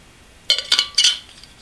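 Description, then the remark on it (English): Three quick, bright clinks of glassware knocking against a hard surface, fairly loud, as a glass is handled for a drink of water, with no voices. “Well, anyway, I gotta get a drink of water.”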